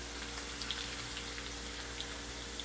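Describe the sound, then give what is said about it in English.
A steady hiss of food sizzling in a hot skillet, with small pops and crackles scattered through the continuous frying noise and no voices. “I got the hot skillet. It's sizzling.”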